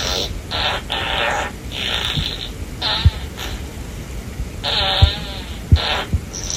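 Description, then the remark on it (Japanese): A series of buzzy, raspy fart sound effects, made by a guitar effector that converts sound into farts and played through the speaker of an Otohime toilet sound device when a hand is held over its sensor: several short bursts and a few longer wavering ones, with soft low thumps in between and no talking. “おならの音が出力されました。”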